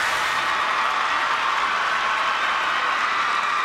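A large crowd screams and shrieks in a dense, continuous high-pitched roar, loud and unbroken for the whole stretch, with no clear voices standing out.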